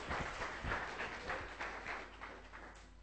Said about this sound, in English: Let's sit down. Give these guys a clap. Thank you.